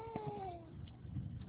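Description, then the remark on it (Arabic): A child cries out in a single high, wavering wail that slides downward in pitch and fades after about half a second, leaving a low, murmuring background hum. “في طفل يبكي يا أخوان.”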